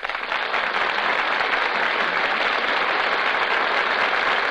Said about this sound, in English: That applause you hear, ladies and gentlemen, tells you that our stars have just come out before the footlights and taken their places at the microphones.